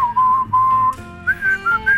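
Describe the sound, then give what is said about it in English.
A person whistles the short melodic refrain of a drinking song, holding long steady notes before the tune steps higher into a brighter, lilting phrase. No one talks. “Yeah, it's got a brilliant whistling refrain.”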